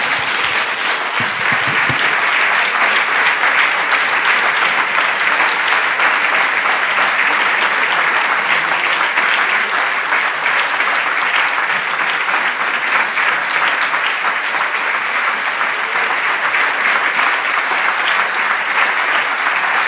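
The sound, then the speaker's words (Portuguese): A standing audience at a religious service at the start of the year applauds for Jesus steadily for about twenty seconds, a dense, loud wash of many hands clapping with no pauses and no voices rising above it. “Tenho uma sugestão, que todos os irmãos fiquem em pé e nós demos nesse início de ano um aplauso àquele que diz que a vitória nos é assegurada nele.”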